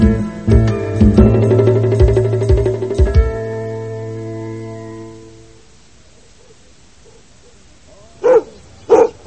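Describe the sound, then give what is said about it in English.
A dog named Blackie barks loudly in a rapid series of sharp barks at a sheep farm in New York State, falls quiet for a few seconds, then lets out two more short barks. “All right, Blackie, that's enough barking.”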